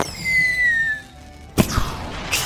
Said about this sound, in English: as the fireworks begin. Fireworks!